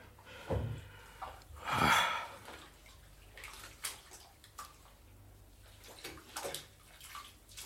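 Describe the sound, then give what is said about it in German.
Water splashes and sloshes in a bathtub, with a couple of louder swishes early on followed by softer ripples and drips, with no talking. “Ein Bad.”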